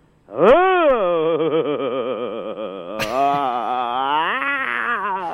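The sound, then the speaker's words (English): A person lets out a long, strained grunting groan while miming a hug of the radio audience, loud and sustained for several seconds, the pitch wobbling and dipping, with a brief catch midway before the voice pushes on again. “Grunt as you hug them in your mind.”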